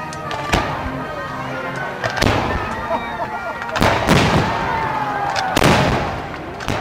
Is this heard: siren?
no